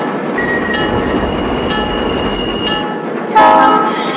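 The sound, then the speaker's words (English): A southbound local train rumbles steadily with a thin, high whine riding over it, then a sudden louder burst of squealing metallic tones near the end as it slows to a halt because smoke is coming from one of its last three cars. “I'll bring my train to a stop and have my conductor located.”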